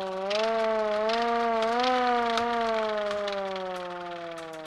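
A hand-cranked East German air raid siren, being wound up, wails loudly and steadily, its pitch rising slightly then holding in a sustained drone before beginning to fade, with a faint mechanical rattle underneath.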